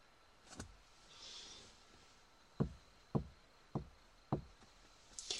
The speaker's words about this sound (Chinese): 啊，他已经到门口等我了。好啊，就开门迎接，是不是一个小帅哥？